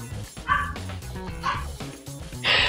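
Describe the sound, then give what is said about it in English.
Pet dogs bark in the background in short, sharp bursts, three distinct barks spaced about a second apart, fairly loud, with a low hum of background noise between them. “My dogs are even excited for the game.”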